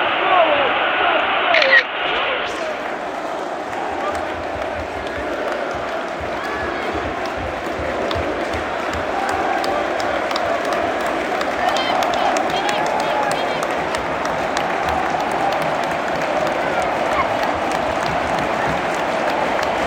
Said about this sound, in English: Liverpool players are walking to the away end, being applauded by their own fans.